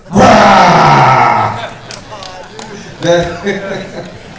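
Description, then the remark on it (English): A person loudly imitates a tiger roaring like a lion, a harsh drawn-out growl that falls in pitch over more than a second, followed by quieter voiced sounds. “The tiger was roaring, but this tiger was very, very amazing tiger. It roared like a lion.”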